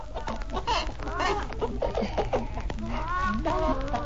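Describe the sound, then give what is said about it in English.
Several hens cluck continuously, overlapping squawks and short throaty calls forming a busy, steady chorus with no talking. “The farmer decided to put his hens in separate cages.”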